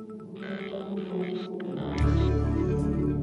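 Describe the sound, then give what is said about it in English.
Whale calls: drawn-out, wavering tonal moans layered over one another, joined by a deep rumbling swell that grows louder partway through. “Whales. Now, is this sperm or blue tip?”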